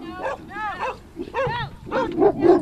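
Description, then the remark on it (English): Several dogs bark and yip excitedly as they approach in a quick, overlapping flurry, loud, with high whiny tones mixed into the barks. “Be cautious of the dogs. Oh, here they come.”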